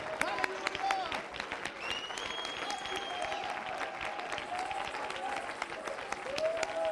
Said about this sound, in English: Clap your hands to the Lord tonight.